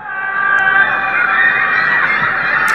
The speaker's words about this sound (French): Là, ce que vous entendez, ce sont eux qui hurlent leur désespoir à leur fenêtre. À Shanghai.